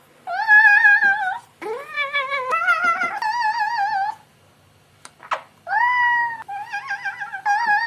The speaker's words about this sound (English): The age of the nerd and the age of the cat came together. And we shoved both of those things into one video. As if Napoleon Dynamite and Hello Kitty had a child and made it yodel. Cat yodeling.